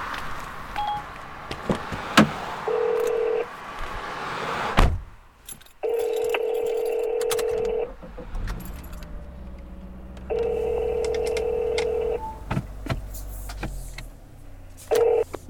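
A phone call being placed inside a car: a short dialing tone, then a steady electronic ringback tone repeating in long, evenly spaced bursts over low road rumble, with no talking.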